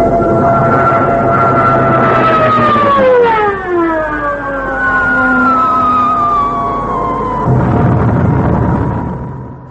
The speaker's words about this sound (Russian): Эта запись авианалета сделана на крыше дома Ленинградского радио во время бомбежек.